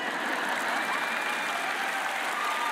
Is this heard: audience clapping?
yes